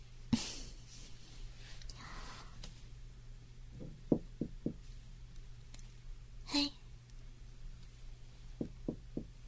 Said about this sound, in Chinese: Hello， 大家好，我现在已经到了酒店门口了，我现在要敲门。